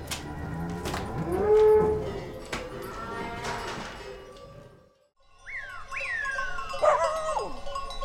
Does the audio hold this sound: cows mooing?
yes